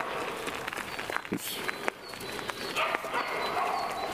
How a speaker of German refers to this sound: Da hinten grölen irgendwelche Brüllhunde rum.